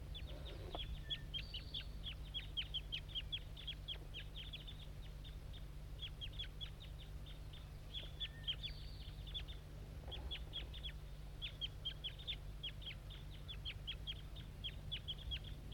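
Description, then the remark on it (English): Rapid, repeated high-pitched chirping calls from a juvenile bird with a band on its right leg, thought to be bird 2-7, dense clicky bursts continuing steadily throughout, with a low steady hum underneath and no talking. “Start recording the juvenile again. I think it's bird 2-7.”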